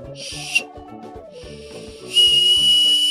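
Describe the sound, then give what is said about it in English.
A small plastic hot dog-shaped Oscar Mayer whistle is blown in several breathy bursts, its wavering, reedy tone growing louder and airier toward the end, with no talking. “It's my little hot dog, my little Oscar Mayer whistle.”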